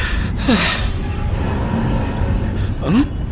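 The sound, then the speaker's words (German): A steady low rumble with two short metallic squeals, the first sliding downward and the second rising, like a train's brakes grinding as it slows to a stop. “Ich glaube, der Zug hält gerade an.”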